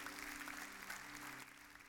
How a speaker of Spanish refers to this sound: Hay gente que viene por primera vez esta noche, levánteme la mano ahí donde está. Hay gente, gloria a Dios, démele un aplauso a los en medio.